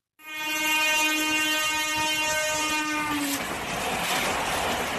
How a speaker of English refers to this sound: The blowing of a train horn during a test run on India's new showpiece railway bridge. Ascending high over a deep ravine in the Riasi district of Jammu and Kashmir, this is the world's tallest single-arch rail bridge passing over the River Chenab.